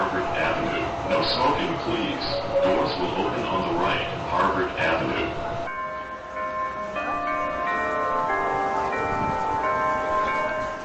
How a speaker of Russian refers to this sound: На углу Тремонт и Скул-стрит всегда оживленно. Кто-то слушает перезвон колоколов у церкви Кингс-Чапел, первой англиканской церкви в Бостоне